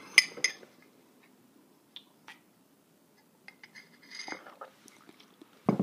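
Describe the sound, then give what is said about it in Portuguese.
A few light clinks of a coffee cup, then a short slurping sip of coffee and another faint clink, all quiet with no one talking. “Então, vou te dar 2 segundos para você pegar esse material enquanto eu dou um golinho no meu café.”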